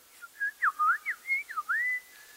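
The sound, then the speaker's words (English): At sunset in spring, around 7 p.m., in nice temperatures, a bird sings a clear, whistled phrase of about eight quick notes that slide up and down in pitch, ending on a longer held tone. No one talks over it. “Can you hear the birds?”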